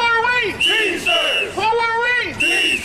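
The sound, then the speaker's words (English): Dozens of UPS workers and Teamsters union members practicing picketing outside a San Francisco facility chant "Teamsters is the answer" loudly in unison, a short rhythmic phrase repeated about every second and a half with rising and falling shouted voices. “Teamsters is the answer, they shouted.”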